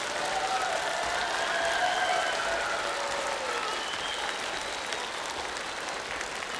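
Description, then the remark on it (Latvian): Sustained applause from a group of children at a show, dense and steady clapping for several seconds, with faint high-pitched voices squealing through it. “Dārgie bērni, palīdziet vēl, aplaudiet!”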